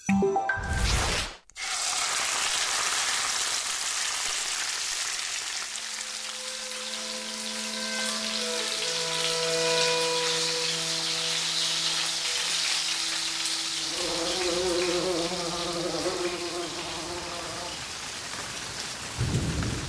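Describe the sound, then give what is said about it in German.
A crowd applauds in a dense, steady wash of clapping that lasts throughout, joined partway by sustained musical tones that shift higher toward the end. “Applaus!”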